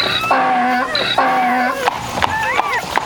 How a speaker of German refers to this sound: Das war unser Esel. Der kriegt nämlich auch Kinder.